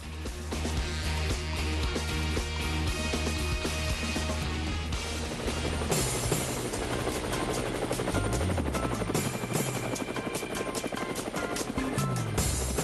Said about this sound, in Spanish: Bueno, pues las aspas del helicóptero nos anuncian este viaje para ustedes desde Cuba, como es un viaje virtual, pues se pueden sumar sin pena, que van a entretenerse un buen rato.